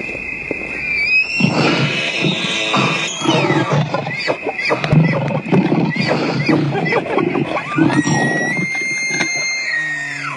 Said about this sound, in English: Well, if you've never seen a lion devour something, you picked the right night to come to CT. Got a short little clip of a lion killing a hyena. It's a little violent, maybe PG-13, but it's not too bad.